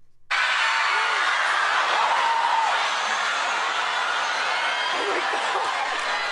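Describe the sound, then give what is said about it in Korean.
A large crowd of shoppers roars and shouts excitedly as they rush into a store on Black Friday in the United States, in a sustained, dense wall of cheering, with scattered whoops and yells rising above the steady din throughout. “네, 함성 소리인데요. 물건을 사려고 매장 안으로 들어가는 소리인가요? 네, 바로 맞습니다.”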